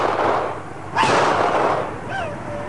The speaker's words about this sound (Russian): вывернул назад руку и выстрелил в Алого